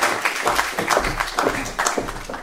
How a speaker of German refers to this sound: Ein dicker Applaus.